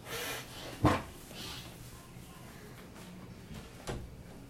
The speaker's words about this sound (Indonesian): gue tutup pintu dulu ya.